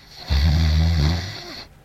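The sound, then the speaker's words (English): A single drawn-out light snore, a low rattling breath lasting just over a second and fairly prominent, from someone passed out face down on a table with hands still on a glass, trailing off into quiet with no one talking. “… is lightly snoring, face on the table, hands still on his glass.”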